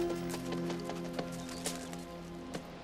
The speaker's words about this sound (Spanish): Esther ve a un oficial ruso que se aproxima a caballo.